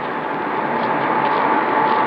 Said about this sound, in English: And we'll ask, there's an air conditioning unit behind the shrubbery.